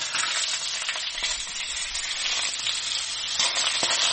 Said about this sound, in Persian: این صدای سرخ کردن غذا احتمالاً آنزیم‌های گوارشی شما را فعال می‌کند و شاید با شنیدن آن هوس یک نیمروه لذیذ بکنید.